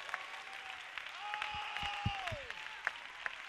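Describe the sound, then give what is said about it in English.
An audience claps their hands together in rejoicing, a dense, continuous burst of applause, with a few sharper claps standing out and a faint sustained tone ringing over the crowd. “Clap your hands, everybody, and rejoice.”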